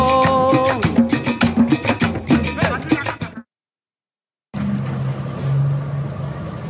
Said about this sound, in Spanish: Podemos ver que la policía está haciendo una valla para dejar pasar uno de los tractores de los camiones de la construcción para llevarse una de las maquinarias que ha estado aquí durante estos 7 meses en el plantón.